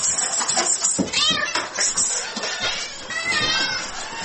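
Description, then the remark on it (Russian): A domestic cat meows several times in drawn-out, rising and falling cries, loud, over a busy background of indoor noise with faint indistinct voices. “Но то ли дело кошка.”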